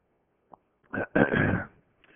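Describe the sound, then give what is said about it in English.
A loud throat clearing: a short rough burst followed by a longer, raspy hacking cough, with a faint click just before and no talking. “Because I was coughing so much?”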